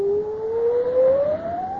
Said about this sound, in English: What's that? What? The cry. It is but a whistling of the wind. No! Listen. This sounds like the keen of a woman. I hear nothing but the storm. Oh, once more it wails.